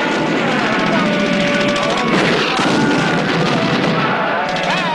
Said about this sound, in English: Back in one of the tanks, Oddball attacks more targets. A truck, a row of freight cars, and another station house all blow apart.